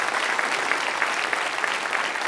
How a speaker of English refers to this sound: Give them a hand clap for their participation.